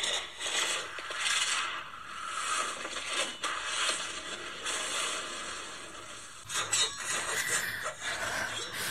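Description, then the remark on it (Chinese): Swords and weapons clash in a fight in a dense forest not far from the Wangyue platform of Xiaozhu Peak at dawn, as a woman in white wielding the Tianya divine sword chases a fleeing man: a dense, steady wash of bright metallic scraping and ringing, with a few sharper clanging hits toward the end, and no voices. “忽然不远处的密林里传出阵阵交翅和兵器的碰撞打斗声，只见一身白衣如雪的陆雪琪正手持天涯神剑，在林间追杀狼狈不堪的六师兄杜必书。”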